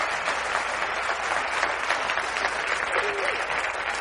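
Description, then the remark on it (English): A church audience bursts into sustained applause as a hand clap for the Lord, many hands clapping densely and steadily for several seconds, filling the room at a strong, even level with a faint voice or two underneath. “Give the Lord a hand clap for that.”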